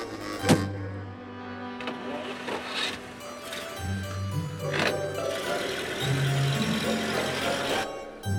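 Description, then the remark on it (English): A limousine's electric windows whir up and down in several short bursts, a steady motorized hum broken by clicks and thumps, heard inside the vehicle with faint background noise. “CJ, it's a limousine.”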